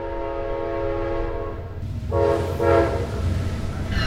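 An Amtrak passenger train rumbles past in South Royalton, Vermont, its horn blaring in long sustained tones over the heavy, steady roar of the cars rolling along the tracks.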